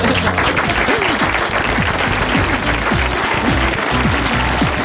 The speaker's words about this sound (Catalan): Un aplaudiment